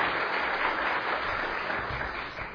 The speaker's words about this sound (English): Would you welcome them? Give them an applause as they come today to be with us.